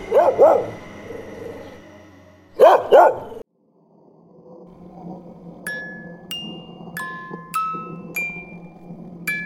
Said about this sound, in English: Woof. I guess even man's best friend has his limits.